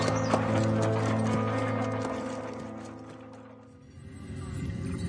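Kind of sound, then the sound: animal, horse hooves clip-clopping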